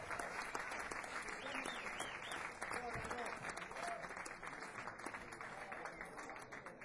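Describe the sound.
A large audience applauds steadily and loudly, a dense wash of many hands clapping that fills the whole stretch, with faint voices and cheers mixed in underneath, as an organizer is invited onto the stage at a music fan convention.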